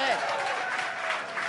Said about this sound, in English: That's good. 3 years in the making. Don't applaud that.